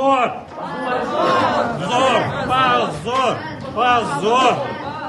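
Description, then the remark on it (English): Supporters of the group Memorial in a courtroom shout "shame" in protest, many raised voices overlapping into a loud, continuous clamor that swells in repeated bursts throughout. “Memorial's supporters in the courtroom responded with shouts of shame.”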